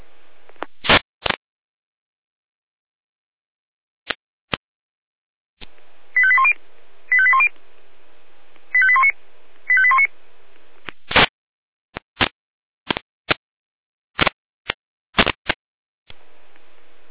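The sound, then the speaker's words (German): A fire brigade radio alarm tone sequence calling out Florian Eisenberg for a general assistance call: four short, buzzy high tone bursts in two pairs, framed by scattered sharp clicks and static pops before and after. No one speaks. “13 Alarmruf.”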